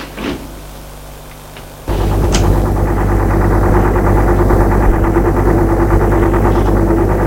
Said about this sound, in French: Des camions qui partent.